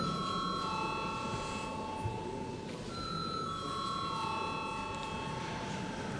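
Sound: parliament session bell ringing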